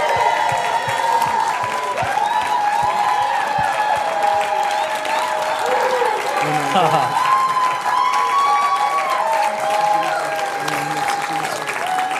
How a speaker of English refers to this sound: Hey, why don't we give Jesus a big hand clap? Est-ce qu'on peut acclamer le Seigneur Jésus maintenant?